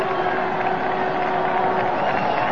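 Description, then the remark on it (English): An orange and blue stadium crowd at a college football game in Santa Clara cheers on third and 1 for Cal in a steady, dense roar that holds at an even loudness throughout, with a faint sustained tone running underneath the noise. “Orange and blue crowd trying to make some noise here in Santa Clara.”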